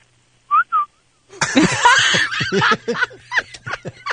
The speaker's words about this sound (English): Is there a whistling orangutan in the house?